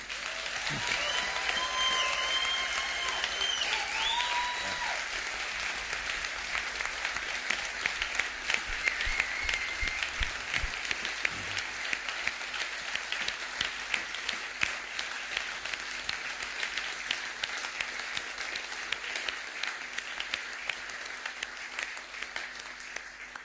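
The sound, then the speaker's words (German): Sustained applause from a large audience during a church service, dense steady clapping that continues evenly for over twenty seconds without a break. “Und jetzt ist Gelegenheit zu klatschen.”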